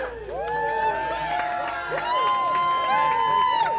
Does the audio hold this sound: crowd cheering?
yes